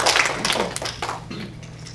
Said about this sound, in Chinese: 我们鼓掌，给耶稣基督鼓掌。